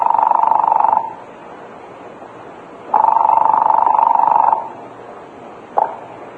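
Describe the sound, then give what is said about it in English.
A telephone line buzzes at the other end of a call to a police department: two long, steady buzzing tones separated by pauses, then a brief clipped third buzz. Slightly muffled, as if heard through a receiver, with no talking. “And I was holding my breath as I heard the buzz on the line at the other end.”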